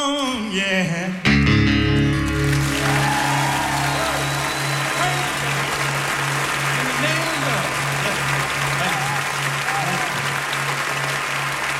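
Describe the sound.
Sustained hand clapping from a crowd, a dense and steady wash of applause lasting about ten seconds, preceded by a brief voice and backed by a low, constant hum.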